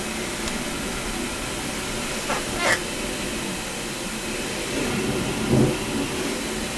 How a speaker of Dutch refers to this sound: Ik weet niet of dat geluid te horen was, maar dat was het gesproei van de muur bij de buren. Het straaljagergeluid.